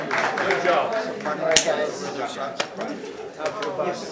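A few scattered, sharp hand claps ring out at irregular intervals over a busy background of crowd chatter, with cooing birds audible nearby.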